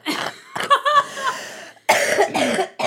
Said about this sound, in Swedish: Ja, men jag är frisk. Jag har bara hostan kvar.